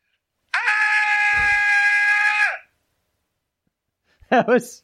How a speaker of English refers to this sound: I'm sorry, did you say my death screen or death scream? Scream, like, you're getting killed.